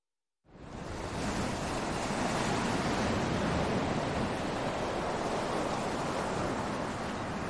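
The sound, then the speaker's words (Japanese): A steady, broad wash of surf noise rises in after a brief silence and holds at an even level, like waves rolling continuously onto a white sandy beach right by a train station, on a spring weekday morning with no people about and no voices present. “改札を出るとすぐ海岸だった。春の平日、しかも午前中、白い砂浜に人影はない。”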